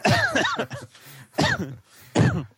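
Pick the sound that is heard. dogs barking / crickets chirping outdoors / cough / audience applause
cough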